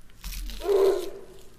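A short burst of crinkly, crackling noise in a video game, like someone crumpling a plastic wrapper, with a brief tonal squeak partway through before it fades out. No voices.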